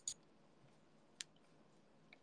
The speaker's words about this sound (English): Wouldn't it be crazy if you guys could tell what I'm typing just by listening to the keys? I don't think you guys can do that, I feel like that'd be kind of crazy.